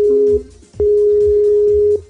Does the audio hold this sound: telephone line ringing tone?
yes